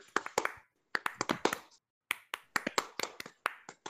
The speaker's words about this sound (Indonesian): Na, tepuk pramuka.